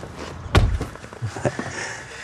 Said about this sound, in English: hurries round to the passenger side to open the door for her.